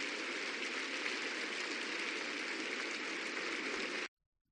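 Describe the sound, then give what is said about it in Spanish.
Sustained applause from a crowd for nine newly beatified women, a dense even patter of many hands clapping at steady loudness for about four seconds before it cuts off abruptly into silence. “Un aplauso para ellas.”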